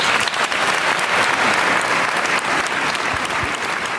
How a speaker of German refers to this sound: Und jetzt darf ich Sie natürlich bitten um Ihr sehr herzliches Willkommen, um einen großen Applaus für Heinz Strunk.